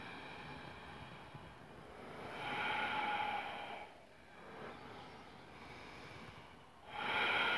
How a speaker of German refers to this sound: Heute werden wir ganz frei atmen, jeder in seinem Rhythmus, auf seine Art und Weise. Und ihr könnt lauschen und euch inspirieren lassen oder euren ganz eigenen Rhythmus finden.